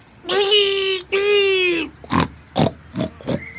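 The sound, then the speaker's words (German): A domestic pig lets out two drawn-out, high squealing oinks, then a quick series of four or five short, rough grunts, loud. “Der Vielfraß grinste gierig, als er das saftige Hausschwein musterte.”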